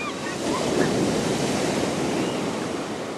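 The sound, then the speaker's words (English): Steady roar of blue-green ocean surf washing onto a wide white-sand beach at Gulf State Park, a broad continuous rush of breaking waves with some wind noise, fairly loud, no voices. “The monster being just a few hundred feet from where he sits, at Gulf State Park, overlooking a wide expanse of sparkling white sand and blue-green surf.”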